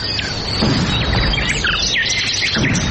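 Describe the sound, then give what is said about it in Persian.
Several birds in flight, fleeing hunters, chirp and call in quick, overlapping bursts over a steady rushing background, like a busy outdoor scene with no one speaking. “شنونده های عزیز سلام، درب برنامه را می گوشاییم و پرواز پرندگان را به تماشا می نشینیم که از بیم وسایل شکار شکارچیان در پروازند.”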